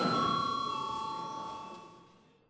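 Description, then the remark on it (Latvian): A single bell chime rings out clearly in a parliament chamber before a vote, its bright metallic tone holding steady and then slowly fading away over a couple of seconds, with no voices over it. “Paldies, lūdzu zvanu.”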